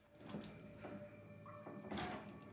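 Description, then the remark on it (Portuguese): The third toilet stall door in a bathroom is pushed open by its handle, with a few sharp latch clicks and knocks, a thin creak, and a louder bang near the end, with no voices. “Ele aponta a arma e põe a mão na maçaneta da terceira porta.”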